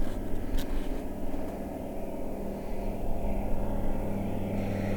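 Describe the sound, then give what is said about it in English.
A small light propeller plane doing a little aerobatics drones steadily overhead, a continuous low engine hum with harmonic tones that stays fairly loud and even throughout, no voices present. “Oh, a little aeroplane, a little light plane coming out.”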